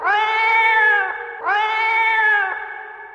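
A cat yowls angrily twice in a row, each drawn-out, strained cry holding steady and then breaking off, loud with no voices around it.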